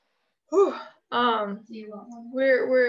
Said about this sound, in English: I don't know if I can yawn for a whole hour next time. Maybe I can. My jaw got to work out.